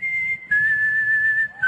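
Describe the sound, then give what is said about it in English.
A person whistles clear, sustained high notes, holding a steady pitch with a slight step down midway, and then another rising note at the end, fairly loud with no talking. “I mean, that's just whistling.”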